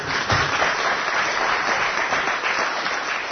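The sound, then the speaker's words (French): A crowd applauds Richard Michel steadily, dense overlapping claps forming a continuous wash of sound at an even level for the whole few seconds, with no voices standing out. “Donc aujourd'hui, on peut l'applaudir aussi.”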